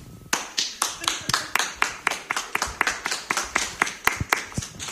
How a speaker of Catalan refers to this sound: ¿Quién vota por...? Aplausos, ¿eh? Ah, claro, aplausos. Tenéis que aplaudir y que se oiga.